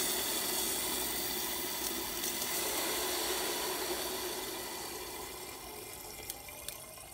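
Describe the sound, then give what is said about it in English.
A steady rush of air hisses out of a compressor tank valve as the pressure is released down to zero after a pressure test, continuous throughout and easing slightly in loudness toward the end, with no talking. “So what we do now is we undo our valve.”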